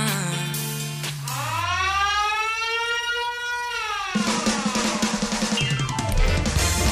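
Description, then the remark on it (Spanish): A loud alarm siren wails, its pitch swooping upward, holding, then sliding down over about three seconds, before giving way to a harsh, buzzing burst of noise. “Saltado las alarmas”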